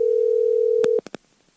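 A steady electronic telephone tone hums for about a second as an outgoing call rings to the executive producer of the Mike Calta Show on 102.5 The Bone, then cuts off, followed by a few sharp clicks. No one speaks.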